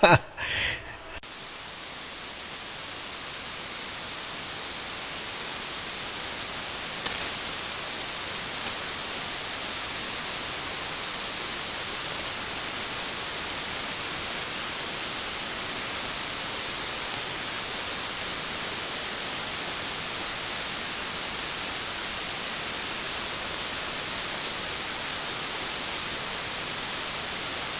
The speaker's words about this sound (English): No static, just hiss. Oops, I lied. There's static. Right when you said you lied, I heard the same static. But before that, I heard the pure, clean hiss. It was S2. Noise floor.